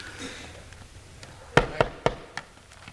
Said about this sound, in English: Amen. I'm knocking.